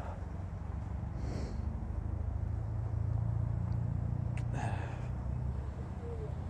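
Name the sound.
car engine running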